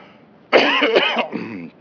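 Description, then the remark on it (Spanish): A loud cough bursts out harshly, then trails into a softer, raspy throat-clearing sound before stopping; no one is talking. “Me bajé un poquito la tos.”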